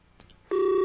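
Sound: phone call dialing tones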